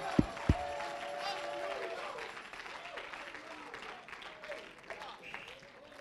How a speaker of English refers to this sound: Oh, clap your hands and shout unto the Lord with a voice of triumph tonight. Hallelujah.